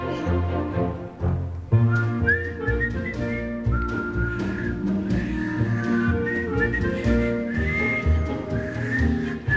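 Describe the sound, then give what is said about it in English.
Someone whistles a bright, lilting melody in clear sustained notes, riding on top of a full, busy orchestral accompaniment that plays steadily underneath throughout. “When they're sorely pressed, they whistle for a spell.”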